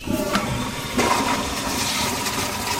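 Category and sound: household object, toilet flushing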